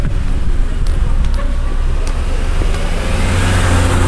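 A car rumbles along a street at Colville Terrace, its steady low engine and tyre noise filling the scene with constant road hum and a few faint clicks above.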